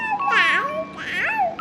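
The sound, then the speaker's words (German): A crib mobile plays a thin, steady electronic melody, with two brief bursts of high, sweeping child-like vocal sounds over it. “Und noch dein Mobile anmachen.”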